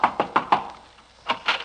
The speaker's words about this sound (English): I'll knock on the door.